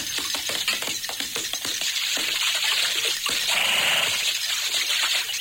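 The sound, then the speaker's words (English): Sharp, irregular knocks of hammering, not too far away, tap out over a steady hiss of running water at a watering spot among large boulders where horses drink, quickening at first, then thinning as the watery rush swells. No voices are heard. “Hey, what's that? Well, hammering of some kind. Not too far away from here either.”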